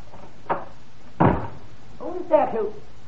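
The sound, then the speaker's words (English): A fire exit door leading to the emergency stairs swings shut with a firm thud after a light click, then a short muffled voice murmurs afterward. “Out that door, down the emergency stairs.”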